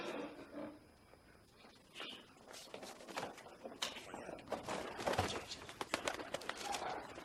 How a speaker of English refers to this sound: Passenger pigeon! Somebody grab the goddamn thing. I got him. Here you go. Get out of here with that flying rat. I don't want him anywhere near me.